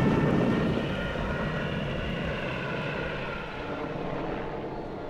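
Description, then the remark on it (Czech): A small propeller airplane's engine drones steadily in flight, its roar easing slightly after the first second as the engine loses power and the plane loses altitude, then holding at a lower, rough hum. No voices. “Mayday! Mayday, Foxtrot Tango, 2-0, motor nemá tak, ztrácím výšku, Mayday!”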